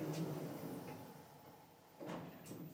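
The doors of a very small lift slide shut with a soft mechanical rumble and a faint chime, followed by a brief thud as they meet, before the lift goes up.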